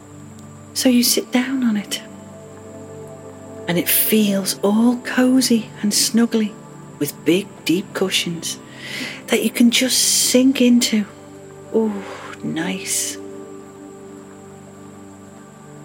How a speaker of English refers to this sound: You can hear the wind and the rain outside your cottage, but it doesn't bother you at all